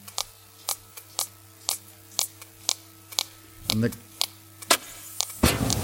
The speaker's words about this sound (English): And that's the air gun. Can you imagine that air gun's going off, I can't work it out, every 6 seconds all day.